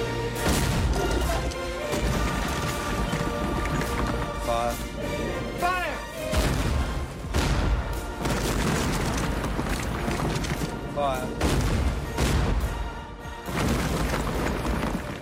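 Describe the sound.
Repeated heavy booms and crashing impacts of British Navy warship cannons firing on and destroying a fortress in Sierra Leone, Africa, thunder continuously in a dense, loud barrage with rumbling debris between blasts, while voices are faintly heard beneath.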